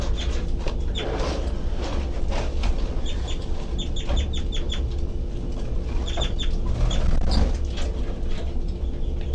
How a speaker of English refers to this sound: Doing the high pitched C call stuff. Start going again, baby birds.